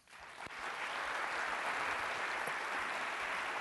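An audience in Traverse City breaks into applause to welcome an author, quickly swelling to a steady, dense clatter of many hands clapping that holds at full strength throughout, with no voices heard.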